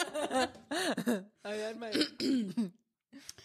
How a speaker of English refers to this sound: Like, somebody give me permission to clear my throat.